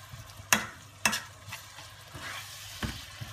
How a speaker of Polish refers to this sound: I na koniec, żeby to było, nabrało wszystkich smaków, dodaję troszkę wody. Niech to się przysmaży dobrze. Bo później to odstawimy na chwilę, żeby te wszystkie smaki powchodziły do środka.